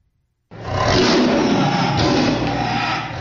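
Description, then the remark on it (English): A female tiger, warning another tiger out of her territory, lets out a loud, sustained roar that starts abruptly after a brief silence and holds steady for nearly three seconds, deep, rumbling and powerful. “A tiger's roar is very loud.”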